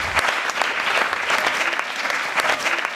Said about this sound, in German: Wer es nicht schafft, innerhalb von 90 Sekunden sein Geschäftsmodell zu verkäufen und zu sagen, was für eine Arbeitnehmerin, was für einen Arbeitnehmer er oder sie sucht, dann wird das Wort charmant, aber gnadenlos mit einem Applaus abgeklemmt.